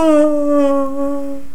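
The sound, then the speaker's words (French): A loud, drawn-out voiced yawn, gliding slowly downward in pitch for over a second with a steady, open-mouthed tone and no talking; a person yawning to loosen the jaws. “Donc, je vais te suggérer de bâiller pour débarrer tes mâchoires.”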